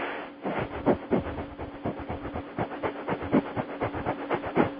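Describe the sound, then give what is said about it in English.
Rapid, forceful panting through the nose as a timed 2-minute breathing exercise focused on the belly area, a steady rhythm of sharp breathy puffs at roughly four per second, continuing evenly throughout with no talking. “simply 2 minutes of rapid panting through the nose”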